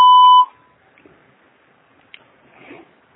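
A single loud, steady electronic voicemail beep tone, after which a message can be left, lasting about half a second, a mid-pitched tone with a faint higher overtone, followed by near silence with a few soft rustles and clicks.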